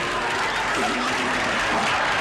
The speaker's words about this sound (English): … raspberries …, who raspberries him right back.